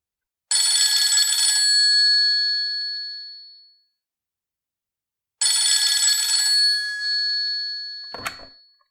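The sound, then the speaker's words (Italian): A telephone rings twice as one person phones another in an Italian dialogue exercise, each long electronic ring sustained then fading, separated by a pause; a short click or handset pickup sounds at the end of the second ring. No voices. “Carmen telefona a Elena.”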